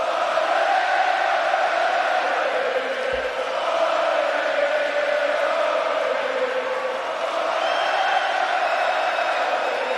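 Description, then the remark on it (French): A huge hockey arena crowd at a Canadiens (CH) game roars and cheers continuously, a dense, loud wall of voices with whoops and shouts rising and falling for the whole stretch. “Hey, la foule est en délai.”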